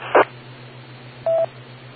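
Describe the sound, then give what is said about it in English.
A single short, steady mid-pitched reference beep lasting about a fifth of a second, following a brief noisy click earlier on, all over a faint low electrical hum. “Again, compare it to the beep.”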